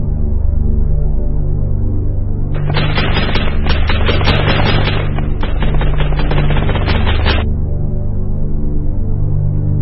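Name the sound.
machine gun fire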